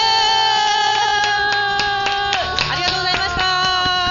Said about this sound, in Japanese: 学園7周年どうもありがとうございました。多くのお客様もね、あの拍手いただいてどうもありがとうございました。